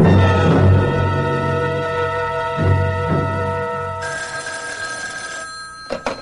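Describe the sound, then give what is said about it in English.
A telephone rings with a steady, buzzing electronic tone that pulses a few times, followed near the end by a couple of sharp clicks like a receiver being handled. No one speaks. “First of all, I've got to make a phone call.”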